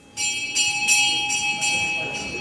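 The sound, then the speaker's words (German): A bell rings out in steady repeated strokes, about five or six clear metallic hits with a sustained ringing tone lingering between them, fairly loud in a resonant hall during a Santo Daime church ceremony in Brazil. “Als die Glocke läutet, öffnen sich am Ende des Saales drei kleine, spitze Fenster.”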